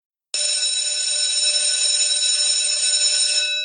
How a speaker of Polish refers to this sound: Ostatni dzwonek.